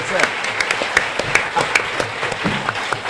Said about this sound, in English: So please give … a big round of applause. That'd be fun.